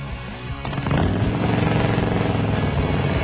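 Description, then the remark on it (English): A big Harley-Davidson motorcycle engine revs up sharply after a brief low rumble, then holds a loud, throbbing, rapid-pulsing drone, with no voices. “Then visit the world-class motorcycle show held every day at Bob Schultz Harley-Davidson.”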